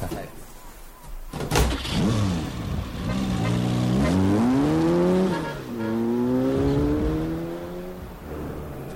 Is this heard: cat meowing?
no